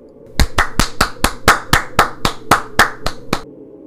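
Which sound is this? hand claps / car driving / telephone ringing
hand claps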